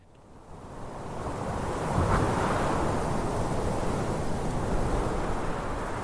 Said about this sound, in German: Mehr hört nicht, wer die globale Samenbank in Spitzbergen besucht. Was fast wie ein gewöhnlicher Bergwind klingt, ist der leicht wechselnde Ton einer Anlage, die schnauft und raucht. Luft einzieht und wieder abgibt.